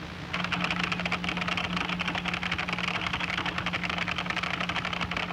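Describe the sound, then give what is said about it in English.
Rapid, steady typing on a computer keyboard, dense clicking keystrokes, running continuously over a low constant hum with no talking. “Well, man, that's just way too much typing.”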